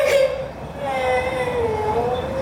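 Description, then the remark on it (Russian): A young girl whimpers and cries, a drawn-out wavering wail that starts with a brief sharper sob and then continues as a steady, tearful moan. “Ну, солнышко, не плачь.”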